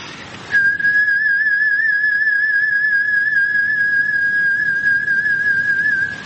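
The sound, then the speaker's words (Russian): A single long, steady human lip whistle held on one pitch for about six seconds, clear and gradually shaped in volume like a singer's sustained note, with only a slight wavering and no talking. “Вот так, постепенно филируя.”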